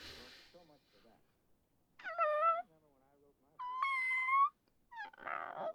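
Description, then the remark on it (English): A person imitates a cat, letting out two loud, drawn-out meows with rising and falling pitch, separated by quieter murmured vocal sounds, ending with a short breathy burst. “I was upset because you and your ex Meow, I saw you talking, and meow, I was so sad, so sad.”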